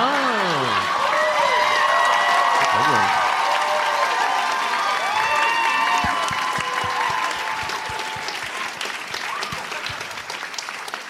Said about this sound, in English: Well, after that round of applause, I'll take Breaking Bad.